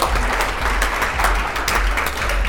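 A crowd claps steadily, a dense, continuous patter of many hands filling the room at a fairly loud level without pause or voices.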